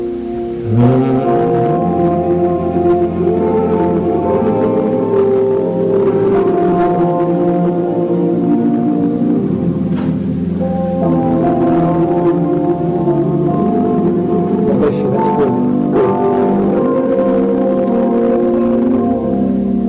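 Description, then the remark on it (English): An audience hums a verse of a slow hymn tune together, sustained low chords shifting every few seconds in a steady, full drone with no words or speech. “Let's hum a verse.”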